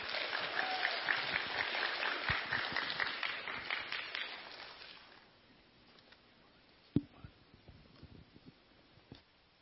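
A church audience applauds with dense, steady clapping for about five seconds to welcome the day's preaching pastor, then it fades to scattered claps and quiet background noise with a single sharp knock.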